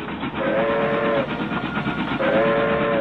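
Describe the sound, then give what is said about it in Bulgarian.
A steam train whistle sounds twice, two steady, drawn-out blasts under a second each, over the continuous loud rumble and clatter of the moving train. “И когато наближаваше тя да изпищи, той зарязваше всичко и тичеше стояшката си на канарата, за да гледа.”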